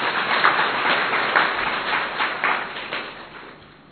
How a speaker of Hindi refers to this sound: तो हम कहते हैं कि जो पहुंच गए वो बहुत बहुत बहुत बहुत भाग्यशाली, तो अपने लिए ताली बजाए।